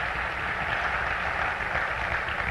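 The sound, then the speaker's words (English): An audience at a church service applauds God steadily, a dense wash of many hands clapping at once that holds an even level throughout, with no voices over it. “You can applaud if you want to. Applaud God, that's all right.”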